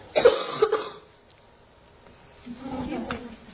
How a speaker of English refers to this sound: Stereo cough. How cool is that?